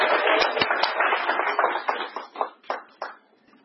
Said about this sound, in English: so everybody give him a round of applause, and I'm really excited to hear what he has to say.